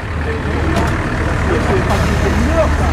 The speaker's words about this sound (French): Oh, voilà bien le bus.